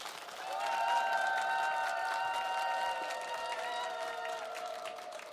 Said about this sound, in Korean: 큰 박수로 청해보겠습니다.